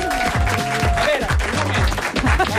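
An audience breaks into loud, steady applause, a dense wash of clapping that fills the whole clip, with a few voices calling out over it.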